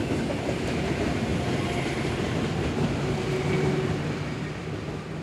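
A train travelling from Copenhagen to Aarhus, Denmark, rolls steadily along the rails, a continuous loud rumble with dense rhythmic rattling and clacking, heard from inside the moving train, with no voices.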